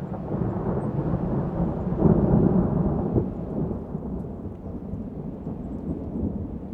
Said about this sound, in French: et puis on voyait des gros amas de cumulonimbus qui commençaient à se former, des orages qui arrivaient, qui éclataient au fond et tout ça, c'est très beau.